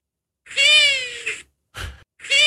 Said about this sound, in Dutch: Dat is dus de ransuil. Het is net een rolfluit. Ja, dat is een heel ander geluid.